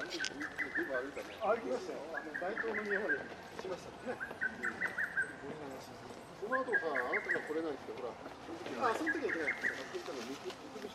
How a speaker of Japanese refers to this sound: ちょうど陽道尼の墓に手を合わせている時にホトトギスが鳴き始めました。いい感じでした。